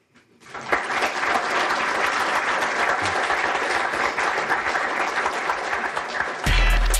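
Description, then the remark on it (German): Long, sustained, dense applause from a large lecture audience at the Alfred-Krupp-Wissenschaftskolleg in Greifswald for Harald Buchmann, professor of forest ecology at ETH Zürich, after his talk on the forest and climate change. It rises quickly and holds steady at full strength for several seconds, with a louder burst of noise near the end. “Langer, ausführlicher Applaus im Alfred-Krupp-Wissenschaftskolleg in Greifswald für Harald Buchmann, Professor für Waldökologie an der ETH Zürich.”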